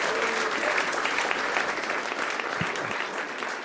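An audience applauds the panel of an AIB GAA show, a dense wash of many hands clapping at a constant, fairly loud level throughout, tapering only slightly near the end.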